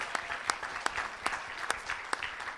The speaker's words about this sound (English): So please give her one more round of applause, because I could not do it without her.